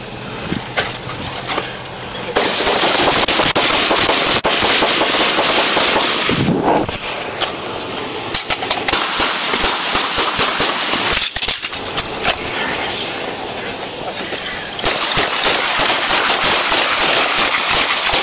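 A long, loud volley of police gunfire aimed at a suspect's reversing vehicle, many shots cracking in rapid, overlapping bursts for over ten seconds, with a brief lull partway through and a harsh roar underneath.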